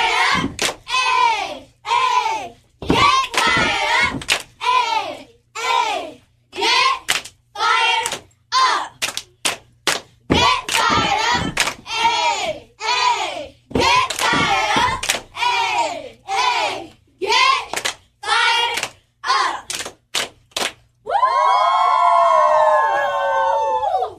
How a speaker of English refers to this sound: Cheerleaders in the building. They got another cheer for us, so make sure you keep it locked.